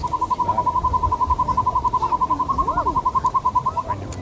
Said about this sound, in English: And so the hawk owl is actually very comfortable being out during the daytime. And they love to sit out in the open like hawks do. But they have a facial disc, which clearly makes them an owl. Here's what they sound like.